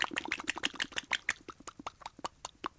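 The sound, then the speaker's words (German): A lip-loosening exercise, lips let go as slack as possible: a rapid series of wet, floppy lip smacks and flutters, roughly a dozen or more loose pops in quick irregular rhythm, loud at first then thinning into separate smacks. “Dass wir so richtig gute, richtige Schmatzgeräusche, ja?”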